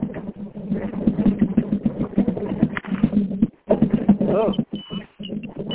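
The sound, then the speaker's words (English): A hand cart squeaks repeatedly as it is pushed along moving a pump, giving a steady run of rhythmic, mid-pitched squeals with short pauses and a higher whine near the end. “Yay, that squeaking you're hearing is a hand cart as I move the pump.”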